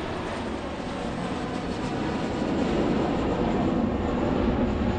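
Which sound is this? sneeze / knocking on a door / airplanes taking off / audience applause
airplanes taking off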